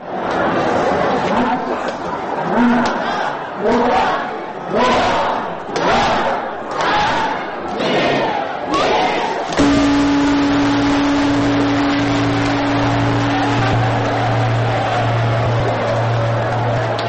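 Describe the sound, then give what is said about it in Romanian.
A large crowd cheers and shouts in loud rhythmic surges welcoming New Year 2013, with sharp bursts of fireworks, then steady low droning tones sound beneath the continuing roar, with bells ringing. “În Australia, Japonia, în insulele din Pacificul de Sud, ca oriunde în lume, anul nou a fost primit cu focuri de artificii, sunete de clopote și urale de bun venit.”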